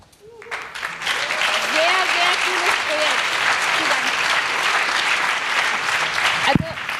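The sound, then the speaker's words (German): Enthusiastic applause from an audience during a talk presenting a Linux software tool, a dense, steady wash of clapping that swells quickly and holds for several seconds, with faint voices and cheers mixed in. “Ich glaube, ihr habt an den begeisterten Zwischenreaktionen aus dem Publikum gemerkt, dass da ein paar Leute sehr, sehr dankbar für das sind, was ihr gebaut haben, weil es sehr konkret und sehr real ihren Alltag und ihre Arbeit verbessert.”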